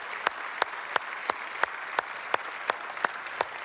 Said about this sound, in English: Dads, would you stand? And we want to give you a massive round of applause. Come on, dad, stand wherever you're at. Give them a big, big round of applause. There you go.